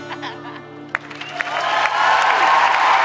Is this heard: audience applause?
yes